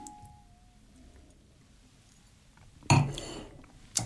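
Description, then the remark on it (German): Glasses clink together in a toast, one bright ringing chime followed by a shorter second tap a moment later, against quiet background hum with no talking. “Ja, dann würde ich sagen, stoß mal an auf den guten Tropfen.”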